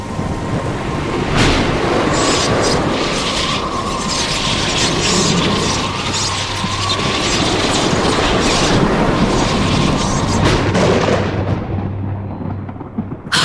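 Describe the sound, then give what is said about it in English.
A loud storm roars steadily, deep rumbling thunder rolling beneath a dense hiss of wind and rain, surging in waves before easing off near the end. No one speaks. “I'm reaching into the storm and pulling up the Doctor, silly.”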